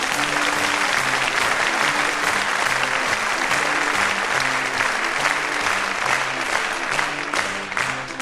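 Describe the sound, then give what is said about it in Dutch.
Sustained audience applause for the pianist fills the whole stretch, a dense wash of many hands clapping at steady loudness, with faint tonal hum or music beneath and no one speaking. “Beloon hem daarom nu meteen met een hartelijk applaus.”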